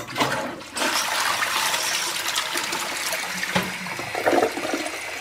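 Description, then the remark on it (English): A toilet flushes with a loud, steady rush of water that fills the whole few seconds, ending in gurgling trickles, as someone attempts to flush a pair of New Balance sneakers down it; a brief dip near the start, no voices. “And even one attempting to flush a pair down the toilet.”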